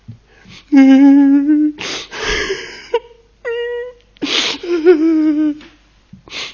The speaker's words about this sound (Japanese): 泣いてる。悲しい。悲しい。